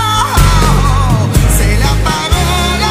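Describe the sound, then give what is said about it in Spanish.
A loud, drawn-out wailing scream with a wavering pitch fills the whole moment, harsh and slightly distorted, as if played back through a speaker, with no talking over it. It is a recorded scream being replayed, a scream also used in Star Wars. “Mira, ponlo otra vez. El grito, el lamento.”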